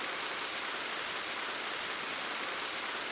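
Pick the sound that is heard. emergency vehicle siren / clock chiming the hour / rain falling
rain falling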